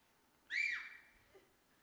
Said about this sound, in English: God's whistling at you today. He's trying to get your attention. Would you do that one more time?